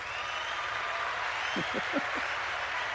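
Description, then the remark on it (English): Canned applause from a new soundboard device with built-in sounds plays as a steady, dense wash of clapping for about three seconds, with a few brief low rising tones flickering through it midway. “my new device has sounds built in.”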